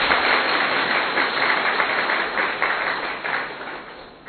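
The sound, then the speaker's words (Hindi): A crowd of people from Ullas Nagar applauding steadily, many hands clapping in a dense, even wash of sound that holds loud for several seconds and then eases off slightly, with no voices over it. “तो सभी उल्लास में रहने वाले ताली बजाओ।”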